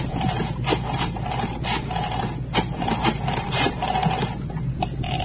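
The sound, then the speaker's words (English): A telephone number being dialed to call Hudson High School: steady mechanical whirring broken by bursts of sharp, rapid clicks, repeating several times at a moderate level with no voices. “Okay, right, I'll dial it.”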